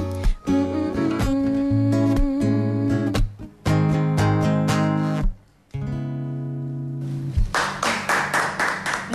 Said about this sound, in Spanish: el aplauso de la gente aquí en la Feria de Muestras